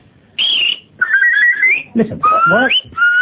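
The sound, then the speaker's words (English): A series of loud, piercing human whistles like hailing a taxi: a short high blast, then longer sliding whistles rising in pitch, with some rougher breathy sounds between, unaccompanied. “when my uncle, a London taxi driver from Brixton, came one day and said, how'd you whistle for a taxi?”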